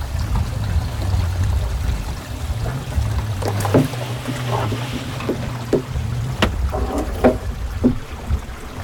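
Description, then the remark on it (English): Water gushes and splashes steadily out of a boat under a low rumbling drone, with a few sharp knocks and sloshes breaking through near the end. “A lot of water left in this thing, man.”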